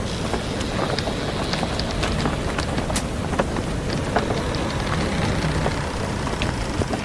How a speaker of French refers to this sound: Voilà, nous avons repris le large. Une tempête se lève.